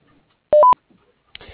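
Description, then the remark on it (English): A voicemail recording tone: a loud, brief two-note electronic beep that steps up in pitch, preceded by near silence. Right after it, a voice begins to speak. “Stay on the line to leave a message after the tone.”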